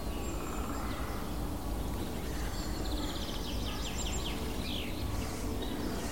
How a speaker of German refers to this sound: Dann hört ihr noch die harten Ticks, Picks, Ticks, Picks Rufe des Kernbeißers. Um uns herum sind zwei mindestens.